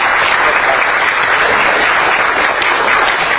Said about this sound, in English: So let's have a round of applause for these folks, too.